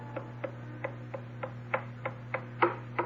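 An old blind woman's walking stick taps steadily down a hallway, about eleven sharp, even knocks with one louder tap near the end, over a constant low hum.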